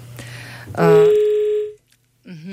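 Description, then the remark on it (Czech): A steady telephone dial tone on a radio call-in line sounds for about a second over a low background hum, then cuts off; after a short silence a brief warbling voice-like sound begins. “Takže teďka máme telefon.”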